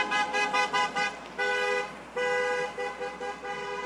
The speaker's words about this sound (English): Between overcast skies and heavy rain showers, the group waved their flags as vehicles passed by, some honking their horns in support.